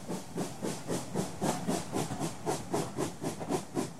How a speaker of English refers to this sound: Soon Jane, the Royal Train, was ready again. Whistle, hoot, toot, toot, along the track.